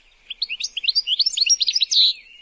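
A small bird sings a quick, bright warbling phrase of rapid chirps and trills, clear, with no other sounds around it.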